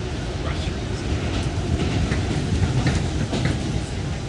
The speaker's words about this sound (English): This particular one is, I believe, a Brooklyn-bound subway. It's definitely a southbound subway. When you hear the announcement, if you know New York, you'll know it's a southbound train.